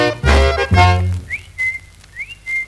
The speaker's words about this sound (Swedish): Nej men varför visslar du för? Jag visslar på min hund. Ja, men det visslar upp i luften. Ja, det är en fågelhund.